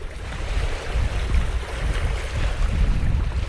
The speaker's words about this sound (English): Murky waves wash onto the garbage-strewn shore of God's Village, the seaside slum where journalist Abdiazjan was killed.